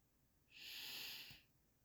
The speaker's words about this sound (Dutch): Neem een diepe ademhaling via je neus.